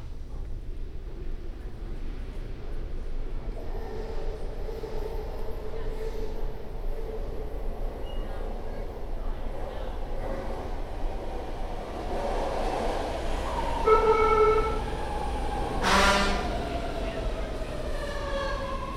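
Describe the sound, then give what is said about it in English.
A commuter train rumbles into a station, approaching platform two, its low roar building steadily before a sharp, high metallic brake squeal rings out near the end, with faint station chatter in the background. “Centaur, Pittsburgh Bay, Point Train, all approaching platform two.”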